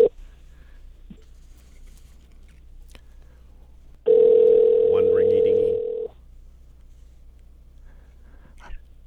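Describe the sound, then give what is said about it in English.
A single loud ringback tone, the steady electronic burr of an outgoing phone call placed from Canada, ringing for about two seconds over a quiet background with faint murmuring. “Here, it's ringing now.”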